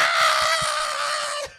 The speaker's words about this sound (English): Just like screaming.